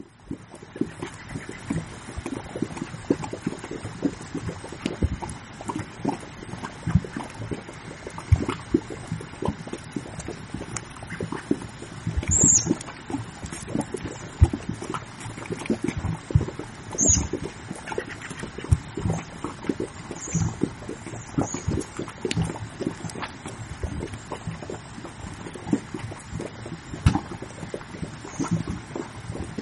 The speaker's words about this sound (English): and so that's what you hear with the burble, the gurgling and the bubbling and the popping sounds is this very thick mud with this, these gases that are working to escape.